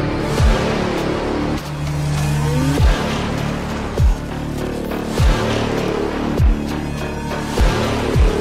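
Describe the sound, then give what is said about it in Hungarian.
A tractor engine revs hard, its loud drone surging and dropping in a steady rhythm roughly once a second, with no voices. “Szüksége van ehhez egy traktorra, amellyel az elvárás valósággá válik.”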